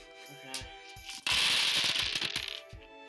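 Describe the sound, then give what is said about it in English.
A player rolls every single die they own: a big handful of dice spills and clatters across a hard surface, a loud, dense burst of rattling clicks that lasts over a second before trailing off into a few stray taps. “And sitting across from me, rolling every single die they own.”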